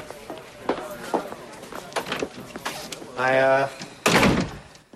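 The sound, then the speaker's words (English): Low voices and a brief tonal sound lead up to one loud, sharp slap as Detective Norris slams a file down on a desk in his office at a police department, followed by a short rustling tail. “He slams down a file.”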